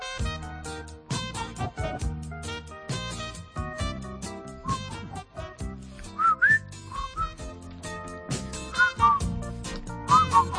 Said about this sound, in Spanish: Qué poco se silba ya. ¿Verdad? ¿Ves?